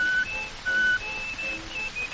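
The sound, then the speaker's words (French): Someone whistles an imitation of a nightingale's song: thin, pure, high notes in short bursts and longer held tones, jumping between two pitches over a steady hiss of background noise. “En la voyant comme ça, un rossignol chanta.”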